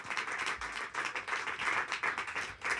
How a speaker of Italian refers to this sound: Un applauso. Applauso a Giulia Pacchioli.